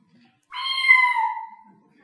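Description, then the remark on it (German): A single drawn-out cat meow, clear, rising then slowly falling in pitch over about a second, with silence before and after. “Ja, richtig, eine Katze.”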